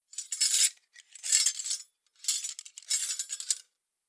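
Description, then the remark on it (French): Metal cutlery rattles and clinks in four quick bursts, like forks and knives being taken out to set the table for a meal, fairly bright, with no voices. “Et des couverts.”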